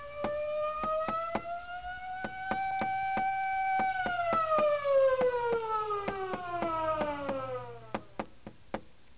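A police siren wails, holding a high tone, then sliding steadily lower, its volume swelling slightly early on, while sharp, regular knocking clicks tap through it. No one speaks.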